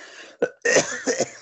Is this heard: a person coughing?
yes